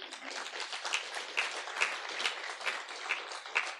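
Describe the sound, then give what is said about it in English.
An audience applauds the Lord together, a dense, steady clatter of many hands clapping for a few seconds at moderate volume with no talking over it. “And the Lord deserves a big round of applause.”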